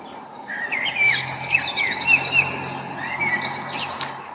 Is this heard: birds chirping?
yes